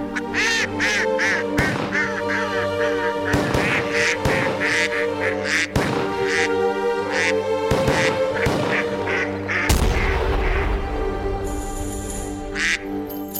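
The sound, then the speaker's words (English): Mallard ducks quack in loud, nasal, rhythmic bursts, arranged to follow a Tchaikovsky holiday classical melody over a steady musical accompaniment that runs through the whole piece. “And the holiday classical favorite from Peter Tchaikovsky, Mallard Dance.”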